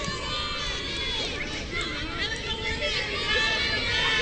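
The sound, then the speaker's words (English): A crowd murmurs steadily as people file into the stands at Trinity Middle School during a game, many overlapping voices blending into a continuous, moderately loud hubbub with no single voice standing out. “Crowd continues to file in here at Trinity Middle School.”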